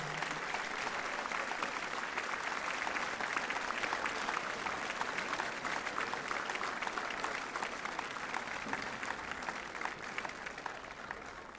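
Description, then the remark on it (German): Sustained audience applause fills the whole stretch, a dense steady crackle of many hands clapping at once, fairly loud and even, with no one speaking over it. “Alles ein Applaus, ja.”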